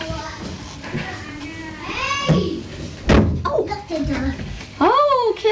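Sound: door being shut loudly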